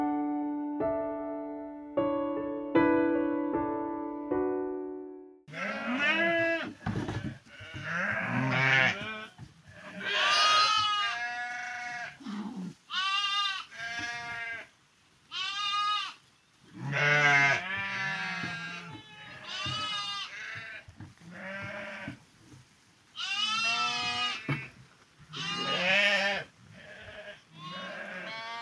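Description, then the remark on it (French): Sheep and lambs bleat over and over in a sheepfold, where most of the flock has been brought in during days of rain and a ewe has just had her first lamb, a male. The calls are loud and wavering at mixed pitches, some high and thin, others lower, overlapping almost continuously after a short steady opening tone. “Et donc elle a fait son petit agneau, un joli mâle.”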